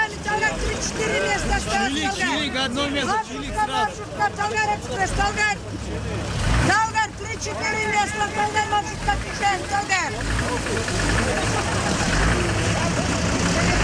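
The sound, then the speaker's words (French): Idling bus engines rumble steadily on a busy street in Kazakhstan, Central Asia, with several voices calling out names of towns, villages and mountains on the sidewalk amid general crowd chatter. “Des bus, moteurs allumés et des noms de villes, de villages, des noms de montagnes lancés sur le trottoir.”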